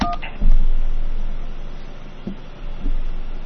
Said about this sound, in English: To be transferred to an extension, please spell the name of the party you are calling. Spell the last name first using the keys on your touch-tone phone. To enter Q, use 7.